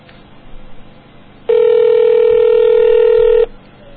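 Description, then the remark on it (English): A telephone dialing tone from a call to a payphone at 59th Avenue and Bell Road rings out as one steady, loud electronic beep lasting about two seconds, with a thin phone-line quality over a faint, muffled background. “I need to use my psychic abilities to make someone pick up the phone.”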